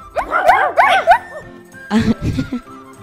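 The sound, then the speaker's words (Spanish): A human voice imitates a dog in a park barking as it runs after a cat, with a quick run of yappy, pitch-bending barks, followed by a short stretch of speech. “El perro comenzó a correr y ladrar.”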